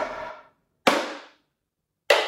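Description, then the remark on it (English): Clay pigeons are broken to make rubble for an exhibition floor: loud, sharp shattering cracks, each like a gunshot with a brief ringing decay; three bursts spaced about a second apart, with silence between and no voices. “It was actually pretty traumatic because the sound from the first one that I broke sounded like a gunshot.”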